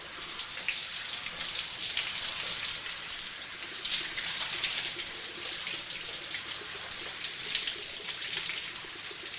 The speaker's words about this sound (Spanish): Entra al baño con torpeza. Y sin tiempo para esperar que el agua se caliente, entra a la tina y se da una ducha rápida.